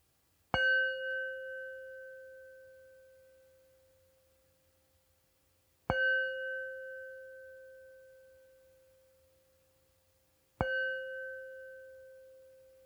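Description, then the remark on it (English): A meditation bell is struck three times, about five seconds apart, each clear, sustained tone slowly fading toward silence before the next strike. No voices. “And as you take your posture, I'm going to ring the bell 3 times, and you're invited to listen to the sound as it goes into silence.”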